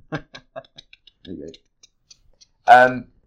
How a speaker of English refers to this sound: Do you want to mute this bit because you want me to type it? Yeah, I don't think it's. I don't know why I need to mute typing.